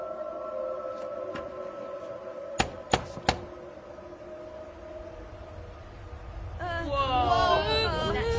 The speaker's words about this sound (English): Oh, the door knocker. A face of a man, his jaw bandaged, his eyes wild, dead as a doornail Marley, inhabitor of lands beyond the grave, doomed to wander this earth forever until... Knock!